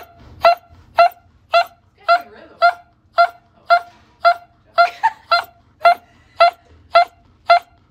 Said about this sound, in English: This dog is totally fine and was waking up from surgery when he started dropping a pretty sick beat.